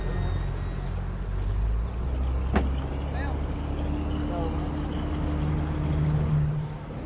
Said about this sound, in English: Okay, these are some sounds of the motorboat engine, just like the wake and that kind of stuff.